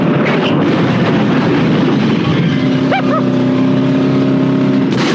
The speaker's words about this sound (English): And at some point, they come to a bridge that's broken, and they just fire themselves a rocket car off this bridge. I'll show it to you.